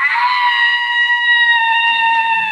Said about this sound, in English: And this thing we hear screeching. They all went away and left the peacock locked up.